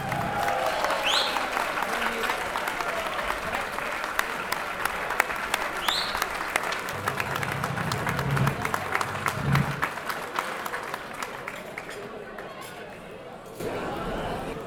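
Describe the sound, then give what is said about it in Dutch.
An audience at a festive performance applauds the conductor of the banjo orchestra before the last number: a dense wash of many hands clapping that holds strong for over ten seconds before thinning out, with a few whoops and murmurs mixed in. “En mag ik uw applaus voor”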